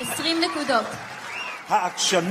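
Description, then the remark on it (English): A quiz show studio audience cheers and applauds loudly as a contestant answers correctly and is awarded 20 points, with excited whoops and shouts rising over a steady wash of clapping for a couple of seconds. “The crowd roars”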